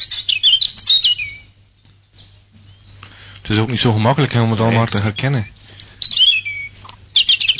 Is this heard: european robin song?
yes